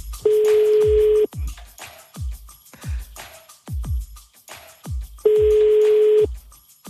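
Two long, steady ringback tones of an outgoing phone call, about five seconds apart, sound clearly over a quieter, regular thumping music beat.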